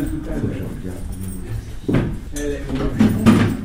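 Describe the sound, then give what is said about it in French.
Chairs being dragged and shifted across the floor of a university classroom to make room, several scraping, knocking bursts, with people talking in the background. “On va faire un peu de place.”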